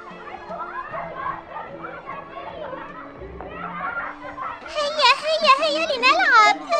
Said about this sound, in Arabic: أجمل منظر هؤلاء الأولاد وهم يلعبون.